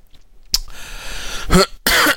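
A person coughs several times, sharp bursts separated by short pauses, with the last one drawn out and raspy. No talking.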